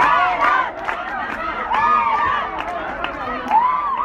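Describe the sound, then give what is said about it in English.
An excited crowd cheers from stadium bleachers at the Afghan Women's Soccer League championship between the Herat Storm and the Kabul Fortress in Afghanistan, men and boys in one section and women and girls in another; a dense, sustained roar of many voices with high-pitched shouts and whoops rising and falling, loud and continuous. “The crowd in the bleachers are excited.”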